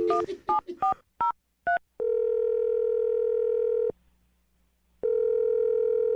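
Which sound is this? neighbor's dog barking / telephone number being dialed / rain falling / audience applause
telephone number being dialed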